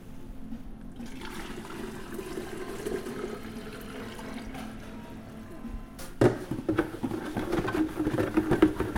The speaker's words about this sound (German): Ja, dann fülle ich doch einfach mal eine Flasche ab. Hm? Dann gehen wir mal hier an die Probe dran. Und die füllen wir jetzt einfach mal ab, damit die Universitätsklinik auch eine tolle Probe von uns bekommt.